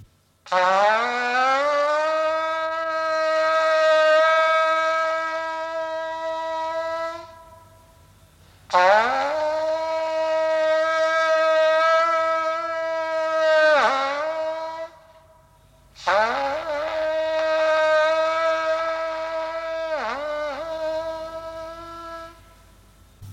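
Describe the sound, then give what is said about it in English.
A Tibetan ritual metal horn sounds three long, loud blasts, each a steady, buzzing low tone rich in overtones that wavers and dips in pitch as it ends, separated by brief pauses. “First, the metal instrument.”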